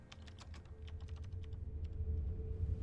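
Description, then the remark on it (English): Rapid, uneven keystrokes clatter on a computer keyboard as an email reply is typed, a quick burst of clicks that thins out, over a low steady hum of room noise. “Already typing.”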